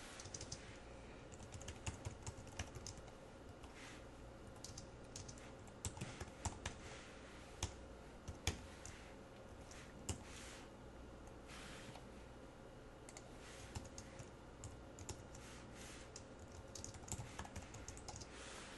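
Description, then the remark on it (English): Steady computer keyboard typing as programming code for a for loop is typed, a dense run of quick clicking keystrokes with brief pauses, moderately loud, continuing alone with no voices. “Now, as I'm typing this, try to figure out what's going on here before I go to explain it.”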